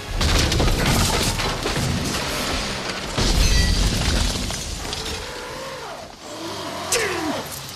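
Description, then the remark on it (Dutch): A car engine roars and revs over a wash of loud, rough noise, with crashing bursts early on and whining, swooping pitches near the end as Nedry's car skids on a muddy road at night in the rain. “Hij moet de haven bereiken, maar in de nacht en de regen slipt hij op de modderige weg.”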